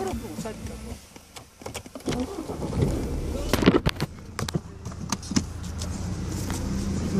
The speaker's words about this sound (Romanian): Bine, mă duc cu mașina? Da, cu mașina noastră, da.